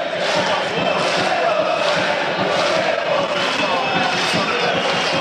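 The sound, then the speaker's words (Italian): A packed stadium crowd of yellow-and-blue football supporters at a Parma–Atalanta match roars and chants continuously around the 27th minute as a corner kick is taken, a dense, loud wall of cheering with scattered shouts rising out of it. “sempre 0-0, calcio d'angolo, Hernani, cresce l'intensità del tifo giallo-blu, Hernani in mezzo, non la prende nessuno”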